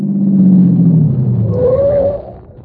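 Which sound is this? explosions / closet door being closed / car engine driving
car engine driving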